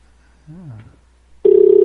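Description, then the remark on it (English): A brief wavering electronic tone is followed by a loud, steady telephone ring tone with a slightly pulsing buzz, lasting under half a second, clear, with no talking. “Doesn't sound like they have a real phone either.”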